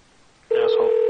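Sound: telephone hung up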